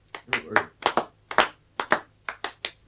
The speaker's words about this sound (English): Do you believe in fairies? Say quick that you believe. If you believe, clap your hands. Oh, go on.